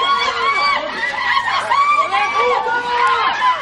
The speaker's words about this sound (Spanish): Gritos de asesino.